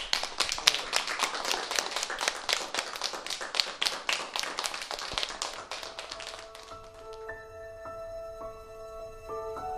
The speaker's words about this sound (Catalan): Quina iniciativa més bonica! Un aplaudiment per a aquesta escola tan solidària.